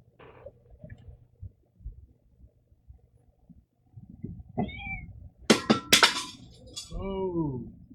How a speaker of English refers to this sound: No, the cat's over here wanting to get pet and knocking stuff over. Forget that was that tripod? No, that was my water bottle.